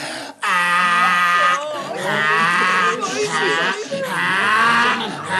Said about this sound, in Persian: این که مثل صدای خری. بله بله، اختیار دارین آقا، غرش حسابی اینه.